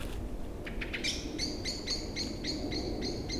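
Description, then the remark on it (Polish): Common blackbirds give contact calls: a rapid run of sharp, repeated call notes, about ten evenly spaced chips, clear over a steady background hiss with no talking. “To są głosy kontaktowe kosów.”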